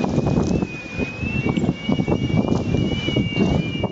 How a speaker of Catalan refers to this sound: L'episodi de vent que està afectant a tot el país ha tingut aquesta nit i matinada alguns dels moments amb les ratxes més intenses que podrien haver fregat als 70 km per hora.